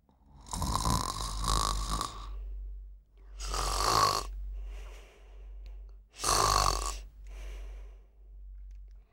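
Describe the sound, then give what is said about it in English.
Three loud, rasping snores at a slow steady pace, each followed by a softer exhaled breath, from a woman asleep in bed at night, with no talking. “She is snoring.”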